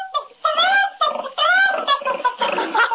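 A pig oinks and squeals while a chicken clucks, both pulled from a magician's hat, the two animal noises overlapping in a quick run of loud bursts lasting a few seconds.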